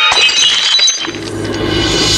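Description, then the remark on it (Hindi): A flying glass tumbler smashes loudly against a chair, a bright burst of shattering followed by scattered tinkling shards settling over a low rumble, with no one speaking. “एक कांच का गिलास उड़ता हुआ आया और सर के पीछे से होता हुआ सामने की कुर्सी से टकरा गया।”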